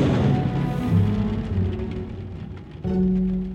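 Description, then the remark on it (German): Steady rain pours down in a thunderstorm, with low rumbling thunder rolling underneath and a deeper swell of rumble near the end. No one speaks. “Gegen Mitternacht zog das Gewitter weiter.”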